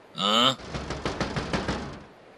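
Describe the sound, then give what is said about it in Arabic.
A brief ringing tone gives way to a quick, steady series of about eight firm knocks on a door, fairly loud, then fading out; an inspector arriving at the door. “هاي اكيد المفتش كاجيت وصل بالسلامه. روح افتح له الباب”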